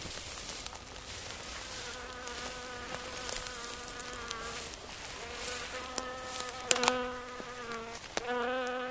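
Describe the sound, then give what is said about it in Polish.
A small bee buzzes steadily for several seconds, its droning hum wavering slightly in pitch and swelling louder in brief bursts toward the end, with no voices. “Nikt jeszcze nie umarł z powodu małej pszczółki.”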